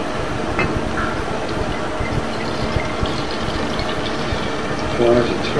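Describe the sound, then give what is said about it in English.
Milk glugs and splashes steadily out of a bottle as it is poured out after a fly flew into it, with a continuous rushing pour that runs for several seconds. A voice briefly sounds near the end. “Does that ruin that bottle of milk? No. How do I get out of it? Fly! I'm going to pour it.”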